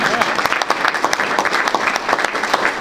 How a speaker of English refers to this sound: So a round of applause.